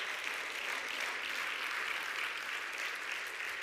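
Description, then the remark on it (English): A church audience clapping their hands in worship, a steady, dense wash of applause with no breaks, holding an even loudness for the whole stretch with no voices standing out. “That we could clap our hands and say, thank you for the victory, Jesus.”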